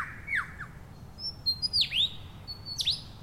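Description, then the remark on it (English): A bird in a Congo forest mimics a camera shutter with a handful of sharp, sweeping chirps, clear against a quiet low rumble, with no voices. “That was a camera shutter.”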